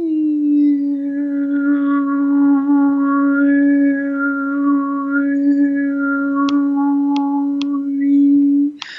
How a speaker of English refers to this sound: The harmonics in any sound, the higher frequencies that make up a sound, I can do bring out the harmonics in my voice.